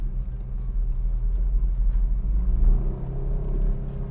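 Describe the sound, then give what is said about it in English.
A car engine rumbles steadily, a deep low growl with a throaty idle that swells slightly and settles, with no voices over it. “So now, this is the second time I have driven this car.”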